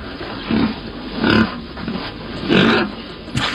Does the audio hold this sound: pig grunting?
yes